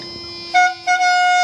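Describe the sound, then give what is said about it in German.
A bakery van's horn honks twice to announce its arrival, loud tonal blasts with a short gap, the second held longer, over a steady low engine hum. “So, der Bäckerwagen ist da, hat jeder gehört.”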